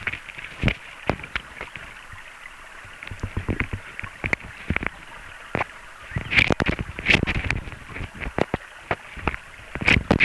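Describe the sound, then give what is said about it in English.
A water rat gnaws on the rubber of a hydrophone it placed on a log in a creek, returning about every hour: irregular crunchy scrapes and sharp clicks, sometimes clustered into rapid bursts, with a hissy underwater backdrop and no voices. “And you can hear every hour or so it comes back and eats on the rubber of the hydrophone.”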